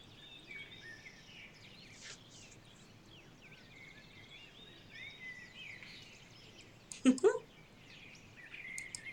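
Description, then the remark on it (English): Birds chirp and twitter continuously, a steady layer of high calls with insect-like buzzing, briefly interrupted by a short louder knock or bump near the end. “Because I don't hear the birds?”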